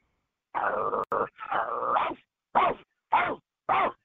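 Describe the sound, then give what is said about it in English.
A person imitates a dog, starting with a drawn-out growling bark and then giving three short, punchy woofs in a steady rhythm, loud. “How are people so good at barking?”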